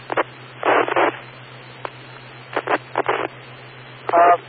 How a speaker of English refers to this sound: I want to try something here because the static is bothering me.